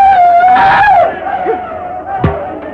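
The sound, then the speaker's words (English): Warriors yell battle cries loudly while attacking a log blockhouse with arrows: one long, held, wavering shout dominates, with rougher voices joining beneath it and a sharp outburst near the end. “Occasionally, one brave would yell, rush forward and let fly an arrow, then dart back to shelter.”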